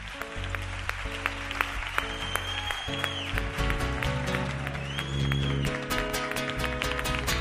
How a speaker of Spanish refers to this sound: Y yo creo que el aplauso más fuerte y más cálido es el que le vamos a dar ahora mismo.